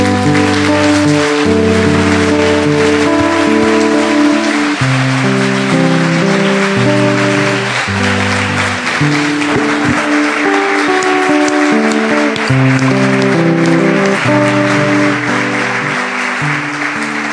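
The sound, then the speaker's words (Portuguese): A crowd claps steadily and loudly for many seconds to praise the Lord, a dense wash of applause layered over sustained keyboard chords playing underneath. “Vamos louvar o Senhor, aplaudi-lo com muita alegria.”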